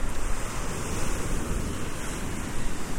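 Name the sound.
ocean surf waves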